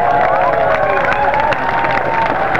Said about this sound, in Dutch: Heel mooi, we gaan daarvoor klappen natuurlijk.